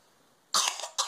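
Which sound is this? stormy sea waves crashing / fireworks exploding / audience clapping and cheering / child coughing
child coughing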